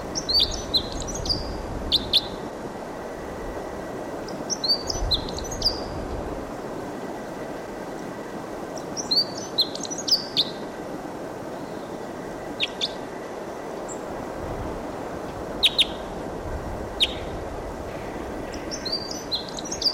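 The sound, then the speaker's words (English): Wild bird song, recorded at 7:03, in short, high, chirpy phrases that recur every few seconds over a steady, loud background rumble and hiss. No one speaks. “It's a wild bird song.”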